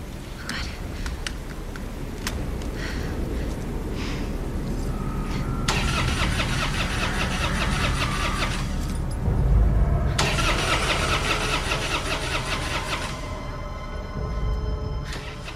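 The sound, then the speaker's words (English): A car engine turns over and catches, then settles into a steady, rumbling idle with a brief rev, fairly loud with faint background noise. “And if this really was a horror movie, then our car wouldn't have started.”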